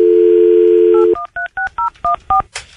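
A steady telephone dial tone drops out, then seven quick keypad beeps sound in an even rhythm as a call is dialed, each a short two-note electronic tone, clear, ending in a brief burst of static.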